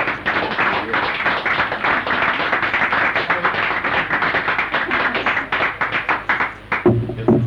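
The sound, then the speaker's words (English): A crowd applauds steadily and loudly, a dense wash of many hands clapping at once with sharp individual claps poking through, and a voice briefly emerges near the end. “I think a round of applause is due, yes?”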